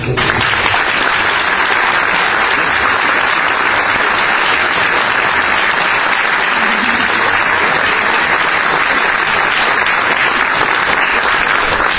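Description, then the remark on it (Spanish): Sustained audience applause at a gathering honouring author Fernando Aramburu, a dense, steady wash of many hands clapping at an even loudness for the full twelve seconds, with no voices standing out above it. “O sea que propongo que empecemos con un gran aplauso.”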